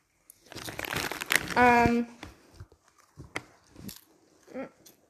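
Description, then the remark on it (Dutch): A milk chocolate wrapper crinkles and crackles loudly for a couple of seconds as it is opened, a short voiced sound cutting in partway, then scattered softer rustles and crackles follow. “Oh, wat is dit? Het is melkchocola, maar mama vindt het heel vies en ik vind het een beetje hard gemaakt.”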